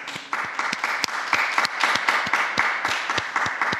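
A crowd applauds steadily for the newly beatified, a dense wash of many hands clapping at a fairly even level, with sharper individual claps popping out through the roar for the whole stretch.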